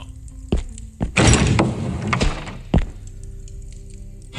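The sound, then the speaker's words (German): A velvet-covered door in a castle corridor being opened: a few dull thunks and knocks, then a short rustling scrape and a final soft thud, with no voices. “Hier geht es zur Haupthalle. Nein. Die samtbezogene Türe.”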